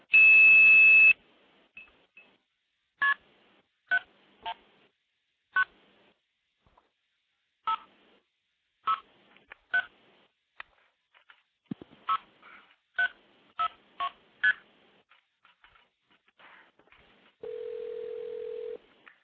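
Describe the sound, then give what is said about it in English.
Telephone dialing tones on a phone line as a number is dialed to redirect a call after blowing it off with 2600: a brief steady tone opens, then about fourteen short two-pitch beeps in an uneven run, ending with a lower steady hum-like tone. “So you can call into the system, make a call, blow it off with 2600, redirect it to another number without actually hanging up and starting over again, which is exactly the way it worked back in the 70s.”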